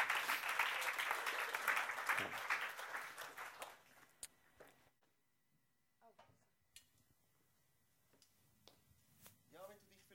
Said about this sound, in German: Ich finde es, ja, komm, gebe doch hier schnell einen Applaus.